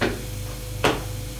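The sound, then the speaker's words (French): A door of a Louis XV-style drawing room opens with a single short latch click partway through, set against a steady low hum. No one speaks. “La porte s'ouvre.”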